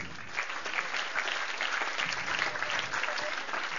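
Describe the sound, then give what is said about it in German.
A room full of people claps steadily for a few seconds after an answer calling Christians salt in the soup, a dense, even patter of many hands at moderate volume with no voices standing out. “Salz in der Suppe, yo, Applaus.”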